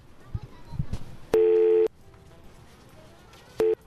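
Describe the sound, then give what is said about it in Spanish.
Two telephone keypad tones beep out as someone dials a number starting with 7-7, a half-second one followed a couple of seconds later by a short blip, both loud and clear over faint background rustling and low murmurs. “Ah, claro, es que sonaban así las teclas, claro, sí, como los teléfonos de ahora también, eso es verdad.”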